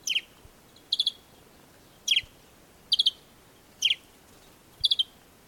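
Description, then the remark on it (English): A desert sparrow (Passer simplex) in the Sahara calling with bright, clear chirps delivered in short clusters of two or three notes, repeating steadily about once a second over a quiet background. “A great example of a bird that lives in the Sahara is the desert sparrow, Passer simplex.”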